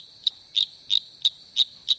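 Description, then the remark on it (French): Six sharp, rattling chirps from a male Litoria phalax tree frog in a mating call, evenly spaced, with a faint high insect-like hum running underneath. “Ce sont les appels d'un séducteur Litoria phalax.”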